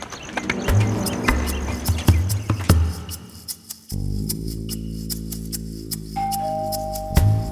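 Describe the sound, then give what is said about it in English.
Scattered clicks and taps, then a sustained electronic doorbell chime rings out at house number 2350, a low tone holding for a couple of seconds before a higher note joins, like a two-note doorbell. No one speaks. “Someone rang the doorbell.”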